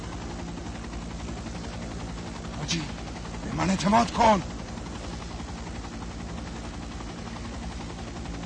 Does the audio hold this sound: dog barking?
no